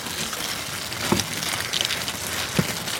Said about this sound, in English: count out 100 into a brown paper bag. The insects scrabble around inside.